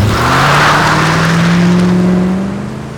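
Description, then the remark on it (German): A man drives a limousine off with squealing tires, its engine roaring loudly with a steadily rising pitch over a rush of road noise, then dropping in volume during the final half second. “Der Mann stieg in die Limousine und fuhr mit quietschenden Reifen davon.”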